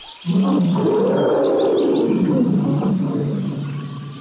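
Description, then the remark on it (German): A pack of 30 angry wolves growls and snarls in a loud, continuous rumble lasting several seconds, with faint high chirping above it and no one speaking. “Siehst du, jetzt sind die Wölfe sauer. 30 wütende, grün und blau geschlagene Wölfe kommen”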